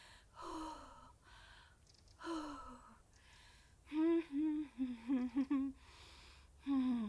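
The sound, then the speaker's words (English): A person takes a run of loud, voiced gasping breaths as breathing exercises, a few spaced out at first, then a quick rhythmic burst of short pants and one final heavy gasp. “I think I'm gonna faint. Help me do my breathing exercises quick.”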